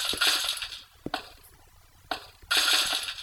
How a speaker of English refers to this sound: You like this? Can you hear it? Can you hear it? It's not bad. This is a stomp app. Fantastic.